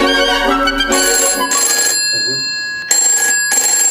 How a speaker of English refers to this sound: Uh-oh. The Phil phone direct line is ringing. The phone is ringing.